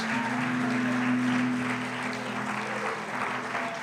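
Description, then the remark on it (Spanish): A large church audience claps steadily and continuously in the afternoon, a dense wash of applause for the Lord from many hands, with a sustained low instrumental tone humming underneath. “Denle un fuerte aplauso al Señor esta tarde, amada iglesia.”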